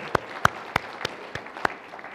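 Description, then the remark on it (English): Sharp hand claps, about six separate ones in a loose, slightly uneven rhythm, over a quiet background hiss with no voices. “Everyone claps.”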